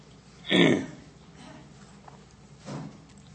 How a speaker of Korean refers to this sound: 어떻게 기침소리가 못마땅한 기침소리가 자꾸 나네.